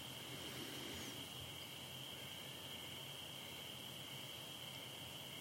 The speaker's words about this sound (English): It's like the noise of the crickets right now. You could make them an obstacle. You say, I can't meditate with all these crickets. But that would be stupid. The crickets can be in the background, they can do their thing.